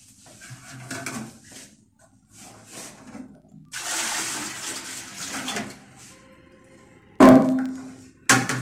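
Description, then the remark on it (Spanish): A toilet is flushed at home using reused washing-machine water, about 5 litres per flush, a rushing, gurgling wash that swells for a couple of seconds, followed by a few sharp clunks and splashes. No one speaks. “Yo cuido el ambiente en casa cuando reutilizo el agua de la lavadora para bajar la cisterna.”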